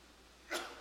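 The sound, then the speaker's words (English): A single quick sneeze, short and sharp, heard somewhat faintly, with no talking around it. “Bless you.”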